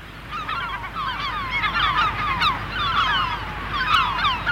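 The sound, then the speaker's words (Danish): A dense chorus of harsh, cackling calls from many northern fulmars at once at their breeding cliffs, overlapping continuously and fairly loud, with no voices. “Yngler malemukken, som grønlænderne kalder fuglen, eller havhesten, som færingerne siger, mens vi jo traditionelt kalder den for stormfuglen.”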